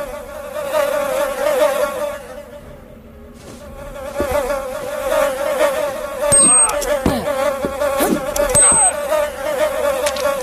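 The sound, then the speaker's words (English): A dense, continuous buzzing like a swarm of bees drones steadily and loudly the whole time, joined later by a few sharp clicks and brief high-pitched electronic blips. “It was like bees or slime wave.”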